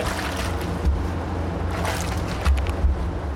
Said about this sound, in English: She leans over one of the tanks, stirring with a long pole. The moromi inside looks like thin, milky porridge, bubbling gently from fermentation.